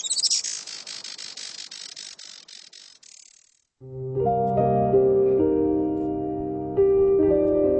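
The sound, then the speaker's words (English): A Juan Fernandez firecrown hummingbird gives a rapid series of high, dry, buzzing chirps, fairly loud, for a few seconds before it cuts off and music begins. “Today, conservationists with Oikonos ecosystem knowledge are working to restore the island's native forests and to ensure a bright future for the Juan Fernandez firecrown.”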